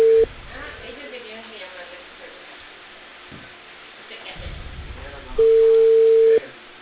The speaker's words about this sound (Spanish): hijo, pero dicen que no tienes a la hija, que te llama en el celular.